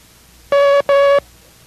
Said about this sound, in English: And that was Mike. Now let's continue with our first lesson in the International Morse Code.